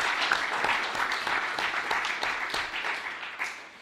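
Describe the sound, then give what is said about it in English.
A crowd applauds steadily, many hands clapping in a dense, crackling wash that stays fairly even throughout before thinning slightly at the end, applauding the victory of the protest against NATO. “So I want to give everyone give themselves a round of applause for that victory.”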